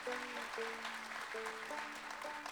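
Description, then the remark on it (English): A concert crowd applauds the opening band steadily, a dense wash of clapping that holds an even level throughout, with a few faint sustained musical tones humming beneath it. “Give them another hand.”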